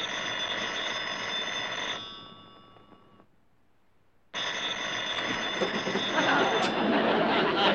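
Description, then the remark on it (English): A telephone bell rings in two loud, rattling bursts as a call is put through to a law office, the first about two seconds long and then, after a short silence, a longer second ring that keeps going until the end. “Would you please ring my husband's law offices for me?”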